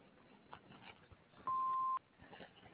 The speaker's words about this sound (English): If you like, leave a message after the beep. Thank you.